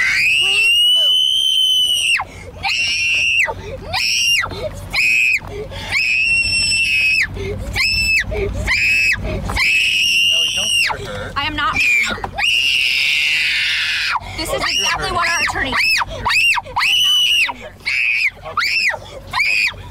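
A young child screams in loud, repeated high-pitched bursts with brief gaps, close up and sustained throughout, sounding upset and protesting.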